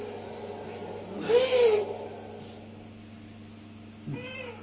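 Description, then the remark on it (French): A female owl gives a drawn-out, slightly wavering call, then a shorter one near the end, heard over a steady low background hum. “Alors le hibou, c'est quelque chose, c'est un chant qui il fait cou. Ça c'est la femelle.”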